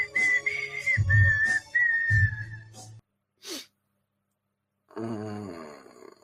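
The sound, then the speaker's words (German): A man whistles a wavering melody, with deep breathy grunts beneath it, a short sharp breath or hiss midway, then a hummed, buzzy vocal tone at the end. “Er singt nicht nur, er fängt auch an zu pfeifen.”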